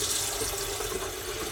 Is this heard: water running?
yes